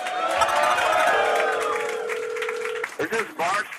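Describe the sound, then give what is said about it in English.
A loud crowd at a live Barstool Sports show cheers and whoops continuously for Big Cat, KFC and Feidelberg, with a sustained yell rising above the roar, then the noise breaks into choppier bursts of shouting and clapping toward the end. “But make some noise for these guys.”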